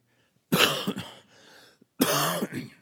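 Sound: throat clearing and coughing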